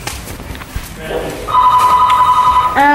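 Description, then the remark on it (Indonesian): A telephone rings with a steady electronic trill that starts partway through and continues loudly, following a stretch of faint background noise and shuffling. “tolong angkat telepon dulu.”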